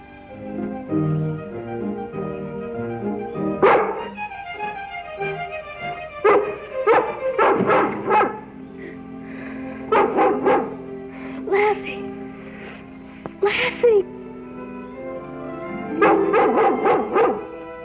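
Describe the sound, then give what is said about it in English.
A dog barks loudly in short bursts and quick clusters of two or three barks, with brief pauses between, over a steady, soft tonal background. “Golly, I wish I had a dog like you.”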